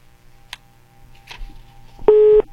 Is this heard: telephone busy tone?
yes